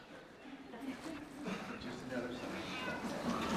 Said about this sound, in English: A black cat just walked up here.